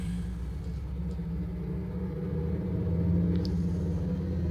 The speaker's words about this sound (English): No, really, he's really adding in this motorcycle. Hold on, wait. That's a real motorcycle.